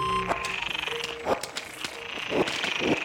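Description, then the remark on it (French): Frogs in distress calling from a pond below a slag heap in Nord-Pas-de-Calais, France: a steady high chorus with several sharper, strained cries rising over it at irregular moments, moderately loud, with no voices. “Trois de grenouilles en détresse, en fait, enregistrées dans une mare en dessous d'un terril du Nord-Pas-de-Calais.”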